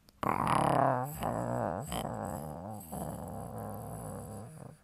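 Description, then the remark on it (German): A voice imitates a cat purring contentedly as it is stroked: a steady, rumbling growl-like drone with wavering pitch, continuous for nearly five seconds with no talking. “begann behaglich zu schnurren.”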